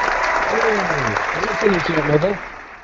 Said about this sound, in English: I would like to have a round of applause for our special guest